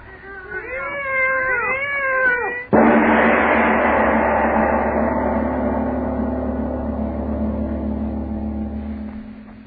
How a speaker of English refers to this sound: there's two of them. Lona, listen to them. They're not ordinary cats. Listen to them.